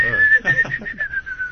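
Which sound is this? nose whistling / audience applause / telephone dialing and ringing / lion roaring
nose whistling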